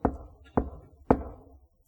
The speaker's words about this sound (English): And if we even hear the knocking, we close our ears.